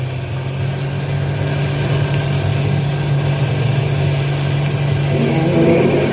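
A car engine drones loud with a steady low hum, revving slightly harder toward the end as the driver steps on the gas to get out of a park; no voices.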